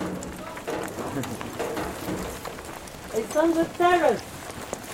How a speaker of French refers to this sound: Oui, ça pleut bien, hein. Ça fait 2 mois qu'il pleut pas et c'est aujourd'hui qu'on va bosser dehors.